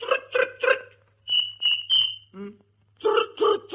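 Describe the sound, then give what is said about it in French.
A voice imitates cricket chirping: three quick buzzy chirps, a few thin high whistled tones, a short low croak, then three more chirps over a faint steady hum. “Tu parles bien grillon.”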